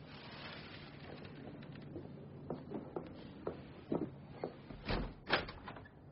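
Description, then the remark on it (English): A front door is handled and opened for a visitor: a run of sharp clicks and knocks, then a heavier thud and rattle near the end, over a steady background hiss, with no talking. “I have to answer the door now.”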